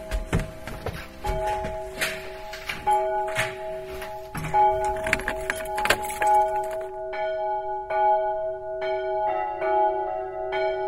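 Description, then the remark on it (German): Church bells, cast in 1919 in Bochum, peal from the bell tower of a church in Seifen, their long sustained tones overlapping in a continuous ringing, with clanks and knocks mixed in during the first half before the tones ring on more cleanly. “Wenn wir schon auf der Empore bei der Orgel sind, dann können wir auch gleich weiter in den Glockenturm klettern, denn Glocken sind auch Musikinstrumente.”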